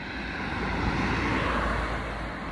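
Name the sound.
car driving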